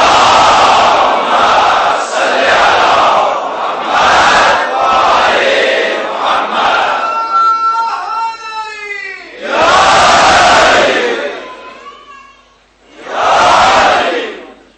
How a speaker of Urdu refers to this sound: حال کے لیے ایک بلند آواز سے درود پڑھیے، محمد والے محمد.